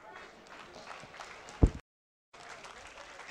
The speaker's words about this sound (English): Hey! Now y'all saw how I got like 50% clap?